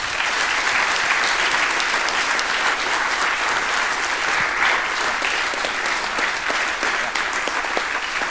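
Sustained audience applause, a dense steady wash of many hands clapping at an even loudness for about eight seconds, with no voices standing out.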